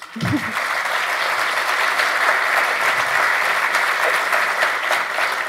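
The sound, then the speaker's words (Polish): Sustained audience applause at a congress, dense and steady clapping at a strong, even level for several seconds, with a brief low murmur at the very start. “Brawa.”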